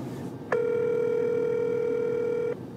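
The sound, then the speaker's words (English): A single ringback tone on an outgoing phone call, one steady electronic purr lasting about two seconds, fairly loud and clear over a faint background hiss, with no voices. “Nobody answers their phone anymore.”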